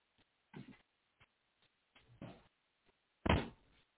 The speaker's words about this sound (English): Hey, wait a minute. Let me close my door.